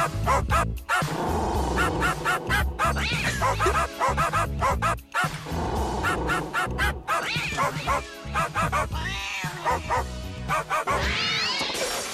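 Several poodles bark and yap continuously in a loud, chaotic chorus, with snarling growls and whiny yips mixed in, dense throughout with hardly a pause; the barking renders a song for a Nostalgie radio quiz.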